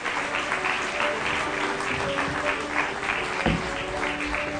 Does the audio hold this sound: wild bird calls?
no